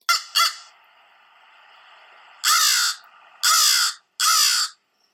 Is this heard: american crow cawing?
yes